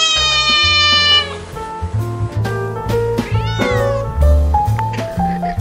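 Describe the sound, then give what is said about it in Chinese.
A cat meows repeatedly and loudly, a series of drawn-out, wavering cries, over a steady low musical backing. “至于喵星人，相信会有非常多的粉丝，粉丝量可以跟狗狗有的一拼。”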